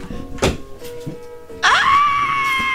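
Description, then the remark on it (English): A few soft thumps, then a person lets out a loud, drawn-out, theatrical fake scream that rises sharply and holds a steady high pitch until the end, sounding put on rather than genuine. “You're fake screaming right now.”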